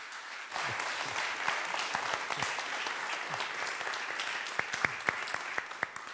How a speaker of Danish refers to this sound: jeg bad dem ikke om at klappe der. Lad du mærke til det? Det gjorde de helt selv.